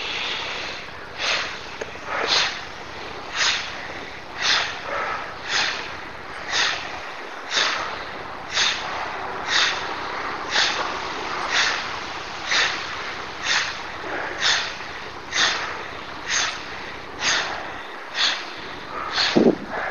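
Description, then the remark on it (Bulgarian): Bhastrika breathing exercise: forceful, rhythmic breaths with powerful inhales and sharp exhales, each a hissing rush of air, repeating steadily about once a second with no talking. “А сега можеш да преминеш към бастрика дишане. Мощно поемане на дъх и рязко пускане на дъха.”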